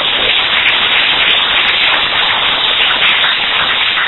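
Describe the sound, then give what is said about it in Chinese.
An audience claps steadily, a dense, even wash of many hands that holds at the same loudness for about four seconds, with no voices over it. “好，我想大家为大家加油哈，先鼓掌。”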